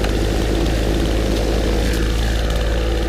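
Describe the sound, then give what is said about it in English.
A plane flies overhead, a continuous heavy engine roar with a deep low rumble and a steady drone holding the same loudness throughout, with no voices. “Planes flying overhead.”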